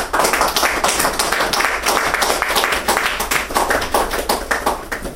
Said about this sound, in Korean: 이번에는 우리 50대 가정의 주부께서 내 가정은 아들 딸과 함께 나와서 2년 내에 치유된 우리 남편의 자랑스러운 모습을 간증드리겠습니다. 우리 박수로 환영합시다.